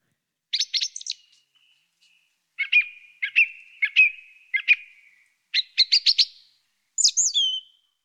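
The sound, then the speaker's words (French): A bird sings clearly in a long song, a recording from the sound library of the Muséum d'histoire naturelle captured by Pierre Huguet: short bursts of chirps and trilled notes, repeated in a steady series with brief pauses, ending in a higher whistled phrase. No voices. “Alors, c'est la sonothèque du Muséum d'histoire naturelle qui nous propose toutes sortes de chants d'oiseaux.”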